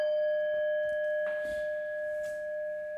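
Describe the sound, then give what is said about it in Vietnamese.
A Buddhist temple bell is rung for the dedication of merit at the end of a teaching session, ringing out with a long, steady resonant hum, its clear overtones sustaining evenly throughout, with no one speaking. “Giờ mình thỉnh chuông hồi hướng, rồi sau đó chúng ta có được ít phút ngồi chơi với nhau.”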